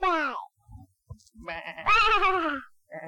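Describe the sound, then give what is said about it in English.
A sheep bleats twice, a short cry followed by a longer, louder, quavering bleat, with a brief bit of another starting at the very end. Faint low thumps sit in between. “What does the sheep say?”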